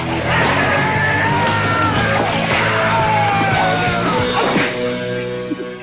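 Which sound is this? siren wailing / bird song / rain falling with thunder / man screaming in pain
man screaming in pain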